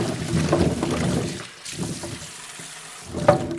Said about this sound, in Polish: Będziemy zaczynać tarkowanie ziemniaczków, więc odlejemy wodę, tak, jeszcze raz przepłuczemy. Przepłuczemy tak mocno.